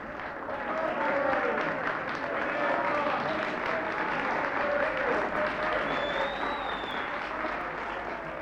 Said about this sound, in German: Die Akteure beklatschen das Publikum.